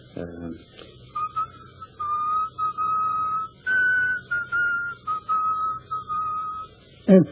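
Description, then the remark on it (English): A man whistles a slow funeral march melody, sustained clear notes in short phrases with brief pauses between them, fairly loud, with a soft thump at the start and end. “He whistles most of the time. He whistles a funeral march.”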